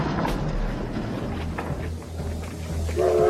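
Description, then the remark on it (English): A train idles at a station with a steady low rumble and hiss, and a brief tonal hum or whistle rises near the end. No one speaks. “Through here, we have the train waiting outside.”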